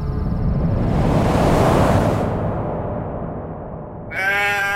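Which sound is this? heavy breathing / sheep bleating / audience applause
sheep bleating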